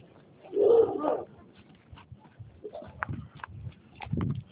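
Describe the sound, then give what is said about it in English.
A neighbor's dogs barking, reacting to anything that gets close to them: one louder, drawn-out bark early, followed by a few softer, scattered yelps. No one is talking. “Next to neighbor dogs are typical. Anything that gets even remotely close to them, they freak out about.”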